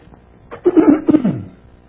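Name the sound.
throat clearing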